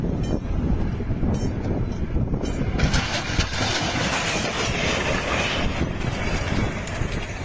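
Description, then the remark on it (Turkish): A crowded Eskişehir–Denizli passenger train roars through a level crossing in İhsaniye, Afyonkarahisar, Turkey, and hits a truck stuck on the crossing. A steady heavy rumble swells into a harsher, brighter rush partway through, with wind buffeting the microphone. “Yolcu dolu tren tıra hızla çarptı.”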